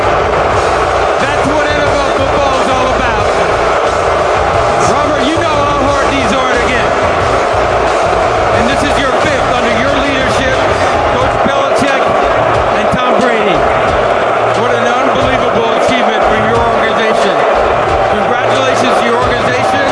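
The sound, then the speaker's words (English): A large crowd in Philadelphia boos loudly and without letup, a dense, sustained roar of many voices filling the whole stretch, with scattered thumps and knocks rising through the noise. “We want to thank the city of Philadelphia for organizing this organized booing, this organization.”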